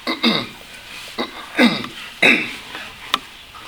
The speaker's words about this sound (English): Excuse me, for clearing my throat, I've got a scratchy throat.